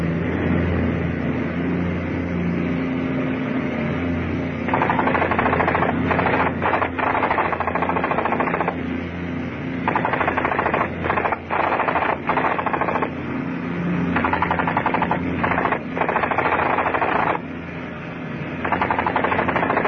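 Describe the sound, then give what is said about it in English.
Sustained bursts of machine gun fire in a strafing attack on a crowd on a road, loud and rapid, rattling in long stretches broken by brief pauses, over a steady low engine-like rumble. “Okay, man the guns. No point letting any of the rest get away.”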